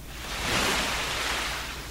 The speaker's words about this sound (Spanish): El mar.